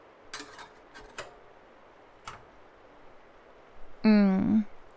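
A few light, sharp clinks of cups and dishes sound at scattered intervals as tea is made at a house on Valentine's Day, followed near the end by a short, steady voiced hum.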